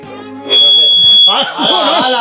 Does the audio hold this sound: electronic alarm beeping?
yes